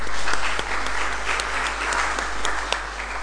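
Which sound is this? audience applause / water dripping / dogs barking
audience applause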